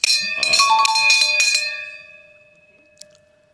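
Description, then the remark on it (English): A small desk bell is struck rapidly several times in a bright, ringing burst, its metallic tone lingering and fading into silence, followed by a faint tap near the end. “How loud is my bell?”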